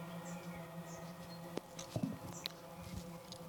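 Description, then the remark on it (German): A steady low drone of traffic from a nearby main road hums throughout, fairly quiet and continuous, with a few brief clicks and taps on top and no one speaking. “Ist das der Wespenschwarm? Ach so, wir sind hier nicht weit entfernt von einer Hauptstraße.”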